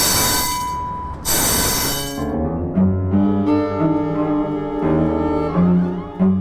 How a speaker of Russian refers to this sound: больше полукилометра от трамвайных путей, так у нас здесь можно в тихий вечер услышать, что прошел трамвай.